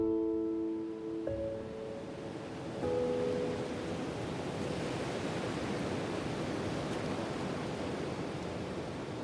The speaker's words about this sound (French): on ne sait pas trop, en fait, si c'est le vent qu'on entend ou si c'est le vent qui porte le bruit de la mer